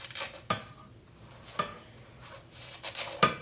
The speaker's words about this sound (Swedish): Håller i paketet med högerhanden och håller fast silen lite grann också så att den inte far iväg. Och sen känner jag att jag har kastrullen och vänder upp och ner på silen och häller ner quinoan i kastrullen.